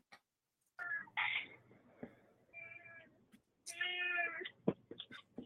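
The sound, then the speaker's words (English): A cat meows three or four times in a row, drawn-out and somewhat whiny, with brief pauses between calls and a faint background hum. Nobody speaks. “Somebody's got the cat.”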